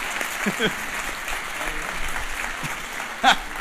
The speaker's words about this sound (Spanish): Fuerte el aplauso